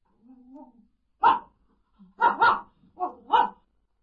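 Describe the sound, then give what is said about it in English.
A dog barks, about five sharp barks in uneven bursts, including a quick double, after a soft, low whine at the start. “He has a dog.”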